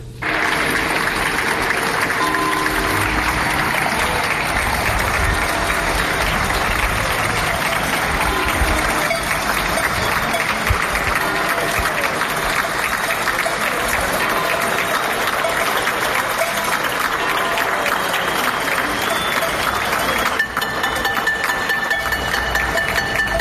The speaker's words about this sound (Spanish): Y la sociedad aplaude cada tarde-noche al personal sanitario por su trabajo. Así sonaba en los balcones del barrio de Ocouto.